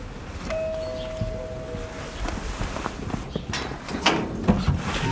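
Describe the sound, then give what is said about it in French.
A doorbell at a house at number 12 on a street in a close suburb of Paris rings with a single steady electronic tone lasting under two seconds, amid footsteps, shuffling and light metallic clatter outdoors. “Dans la sonnerie, ouais.”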